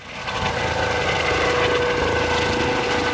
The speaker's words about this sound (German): Ein Hubschrauber der Bundespolizei zieht eine riesige Plastikbadewanne voller Wasser mit sich in die Höhe, fliegt und wirft das Wasser ab. Immer wieder.